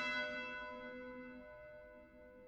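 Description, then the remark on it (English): A single deep tone from one of a set of nine bells, struck at the start, its rich overtones humming and slowly fading over a couple of seconds, fairly quiet and with no voices. “The nine bells, they're played in a very slow and dignified way.”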